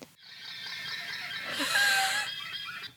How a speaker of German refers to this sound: Lamas, übrigens, Lamas machen folgende Geräusche.